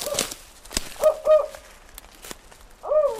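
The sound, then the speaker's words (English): Several low, hollow hoots of a northern spotted owl in an uneven pattern, a pair close together then one more after a pause, clear with faint background noise and a few sharp clicks; a recording played by a National Park Service ecologist at almost dusk in a dense forest near Muir Woods, north of San Francisco. “National Park Service ecologist Bill Merkel is playing this recording of a spotted owl in hopes of hearing from a real one.”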